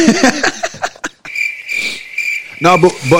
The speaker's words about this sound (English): Where them crickets at?